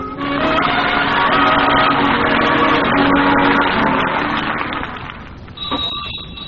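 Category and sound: signal or alarm, school bell ringing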